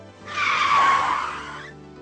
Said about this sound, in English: If the brain didn't do that, we would be unable to hear a car coming from behind and jump out of the way in time.